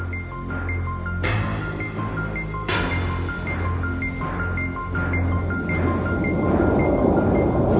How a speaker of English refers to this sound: Suddenly the cave was filled with thunder.